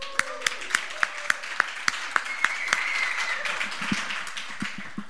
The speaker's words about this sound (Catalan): jo crec que estaria bé fer un aplaudiment als 5 anys de Festival de Poesia de Sant Celoni, per aquests 5 anys i perquè n'hi hagin 5 més.